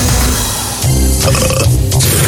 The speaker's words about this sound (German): Prost-Mahlzeit. Wer auch immer das jetzt war, ich war es nicht. Um das an dieser Stelle anzumerken. Wer rülpst denn hier so still? Es hat die Sendung ungemein aufgelockert, muss man ganz ehrlich sagen.